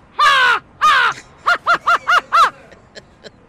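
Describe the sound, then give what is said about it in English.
A person imitates an American crow's cawing: two long, harsh caws followed by a rapid run of five shorter caws, loud, with a couple of faint clicks trailing off at the end. “American crow.”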